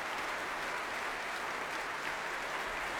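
Sustained applause from a large concert audience at the Proms as the conductor returns to the stage applauding the BBC Philharmonic and bringing them to their feet, a dense, steady wash of clapping that stays even in level throughout, with no voices standing out.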